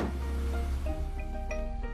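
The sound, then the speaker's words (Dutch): An electric convertible car roof opens, operated with the red button after the rain has stopped, with a steady mechanical whir and a low rumble, its motor tone shifting slightly as it runs for a couple of seconds, with no voices. “Mag het dak weer open? Ja. Welk knopje was het? De rode.”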